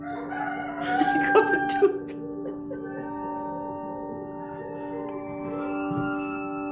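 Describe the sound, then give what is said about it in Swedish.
A loud, drawn-out bird call with a harsh, ringing tone, then trailing into a long, fainter held call. No one speaks. “Här har vi ju en känd fågel som gör, om man hör ett ljud av en näktergal så är man genast liksom där, va?”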